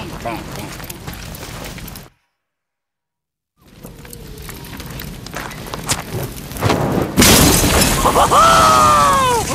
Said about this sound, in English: Bang. Yes! That, my friend, is a napalm Molotov. And that is how we're gonna win this war. Once I fine-tune the formula, that shit's gonna burn hotter than an acetylene torch.